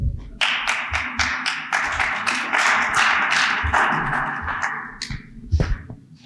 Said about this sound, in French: Merci, merci pour ces applaudissements convaincants.